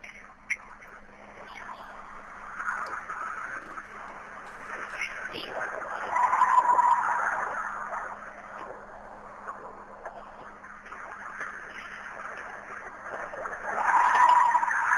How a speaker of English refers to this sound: So anyway, I want to play the howl again, but I'm also going to play after that some fox calls. So take a listen once again to the Bigfoot howl.